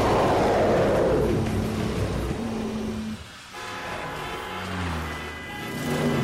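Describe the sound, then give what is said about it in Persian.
A steady, loud roar of city road traffic with engines rumbling, broken by a few sustained low droning tones, and a brief lull midway before the noise swells again. “آخ تو این ترافیک حتما گمش شد.”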